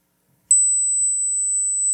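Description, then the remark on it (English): A single sharp click, then a steady, unwavering high-pitched test tone that starts immediately and holds at constant loudness to the end, with no voices. “So you're going to hear a click, and then you're going to hear a hum.”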